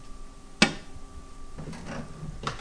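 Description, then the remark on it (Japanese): A sharp click as a microwave door pops open, followed by some shuffling and a firm clunk as it shuts again, with a faint steady hum underneath; an apple and milk mixture is being heated again in the microwave at 600 watts for about 1 minute. “そして、もう一度電子レンジにかけていきます。”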